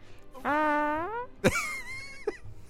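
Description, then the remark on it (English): Two fake fart noises in a row: a long, wavering buzzy toot, then a sharp pop followed by a second flatter, raspy blast. Loud, with no talking. “Fart noises. That was a little nervous toot.”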